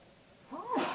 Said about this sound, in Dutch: Gezondheid.